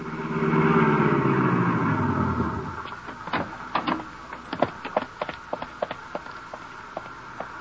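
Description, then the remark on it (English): A car engine rumbles loudly for a few seconds as the car is driven out to the Metropolitan Arena, then winds down and cuts off, followed by a series of sharp, irregular taps and clicks. “I stumbled to the elevator, went downstairs, found my car, and drove out to the arena.”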